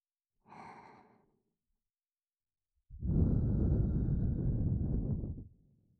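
Two slow, breathy exhalations very close to the microphone: a short airy sigh, a pause, then a longer, fuller whoosh of breath that fades out. No one speaks.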